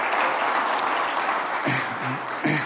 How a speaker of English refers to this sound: And I think we ought to applaud. I don't think the family gets the credit that family deserves in our day, in our time, as God has assigned it. So would you with me? Let's clap and cheer for the family. Praise God for the family.